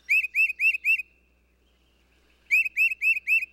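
A wild bird calls in two bursts of four quick, rising whistled notes, a short pause between them, clear against a quiet background.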